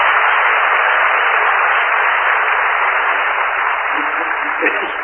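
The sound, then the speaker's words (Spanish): A show's audience applauds for Maica Iglesias as she passes carrying a box for messages, in a dense, continuous wash of clapping that holds steady and fairly loud throughout, with no single claps standing out and a slightly thin, tinny tone. “Aplaudan a Maica Iglesias.”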